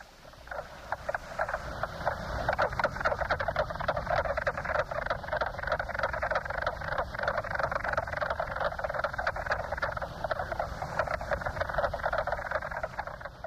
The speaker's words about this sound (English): that's 30 years old and has never been oiled, and you're kind of pushing it along, and it kind of has that kind of squeaky, rattly wheel to it. And the mink frog, as opposed to the green frog, the mink frog is the one that's farther out in the lake.